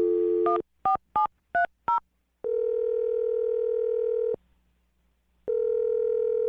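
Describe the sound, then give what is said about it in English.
A phone line with a steady dial tone, then five quick keypad beeps as a man's phone is dialed, followed by longer ringback tones separated by a pause. Clear, with no talking. “Well, I'm going to dial his phone right now and see if we can figure it out.”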